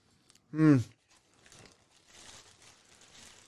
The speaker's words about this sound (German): Jetzt wird der Käfer kaputt gemacht. Das bricht mir das Herz. Ja, das tut wirklich ein bisschen weh. Wenn so ein Käfer immer was Sympathisches hat.